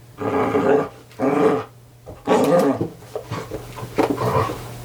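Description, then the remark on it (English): A puppy growls in several rough, rumbling bursts, the first few long and loud, then shorter, choppier grumbles trailing off, with no talking. “Are you lending your voice talents to my podcast, puppy?”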